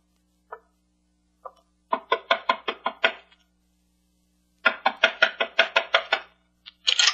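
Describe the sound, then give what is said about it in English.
Two tentative raps, then a quick burst of about six sharp knocks on a wooden door, a pause, and another rapid, more insistent series of knocks, fairly loud with no voices. “Knock on the door”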